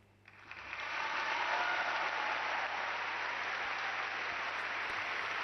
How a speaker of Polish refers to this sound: I na potwierdzenie tych słów oklaski młodzieży zebranej w kościele w katedrze luterańskiej Karola.